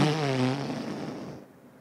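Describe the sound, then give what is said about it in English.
A voice imitates a young child's wet, spluttering blow on a newly lit fire to fan it into flame: a buzzing lip raspberry with a low pitched drone that breaks into a breathy, sputtering hiss and fades out over about two seconds. “And you're teaching them how to blow on a fire to make it fan into flame.”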